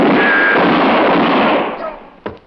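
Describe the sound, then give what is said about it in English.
A loud, sharp gunshot that hits a man in the hand bursts out and its harsh, noisy blast rings on for nearly two seconds before fading, followed by a short, faint crack near the end. No one speaks. “Dirty pig, you shoot a hole in my hand.”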